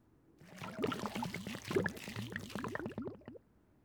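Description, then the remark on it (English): A mother tips water into a car, a steady stream of rapid gurgling glugs lasting about three seconds before stopping abruptly. No voices are heard. “Mum tips the water into the car.”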